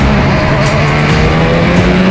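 A Formula One race car engine screams at high revs, a loud, steady whine that holds its pitch for about two seconds, with no talking.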